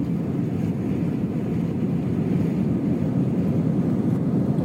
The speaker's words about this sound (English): He smiled and grabbed my hand as the plane started speeding down the runway.